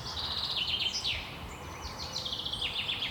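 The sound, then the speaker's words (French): A chaffinch sings a bright, descending trill that stands out above other birds chirping in a forest of mixed beech and spruce, with phrases repeating and no voices present. “Il y en a un qui domine bien le pinson.”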